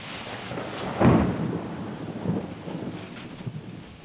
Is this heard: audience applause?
no